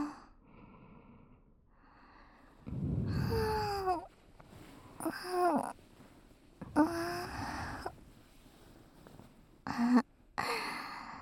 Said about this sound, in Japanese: あなたも今、あくびしたでしょ。